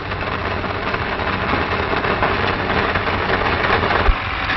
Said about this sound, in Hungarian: A perselyek tartalmát a számoló gépbe ürítik. Ezután az érméket automatikusan csomagolják.